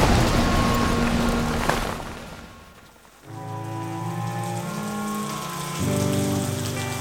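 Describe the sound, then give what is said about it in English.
Steady rain, a slow but steady morning drizzle in Fury, Arizona, hisses evenly across a surface for about three seconds, then fades away as sustained melodic music with low tones swells in. “Back in Fury, it was still raining come the morning, although it had settled into a slow but steady drizzle.”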